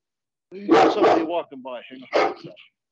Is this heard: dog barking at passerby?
yes